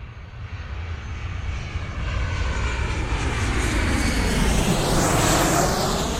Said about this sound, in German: Das sind Flieger, natürliche Passagierflieger, die klingt so, wenn du startest, dann noch wehen. do muss ich natürlich lo ganz trainiert Ohr hun. Dat war eng Boeing 737.